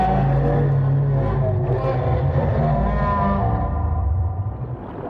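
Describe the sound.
A voice mimics whale speech with a long, drawn-out, warbling low moan, loud and sustained for about five seconds before trailing off.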